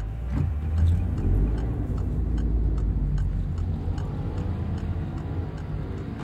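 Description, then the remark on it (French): A grey BMW 520d E39 estate car, about twenty years old with 234,000 km on it, running, its deep steady engine rumble continuous throughout, with a faint regular ticking over the top and no voices. “Un gros break gris, C'est quoi comme modèle ? C'est une BMW 520D E39, qui n'est pas toute jeune, qui a une vingtaine d'années.”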